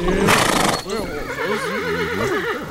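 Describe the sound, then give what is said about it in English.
A loud horse whinny with a quavering, wavering pitch that trails on for a couple of seconds, opening with a short burst of breathy noise. “What are you all doing out here? We are horses.”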